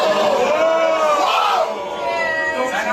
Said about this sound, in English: Now the crowd pause it. The crowd right here is thinking like, "Oh, she's gonna have a great comeback right now." So they gave him a little bit of a whoa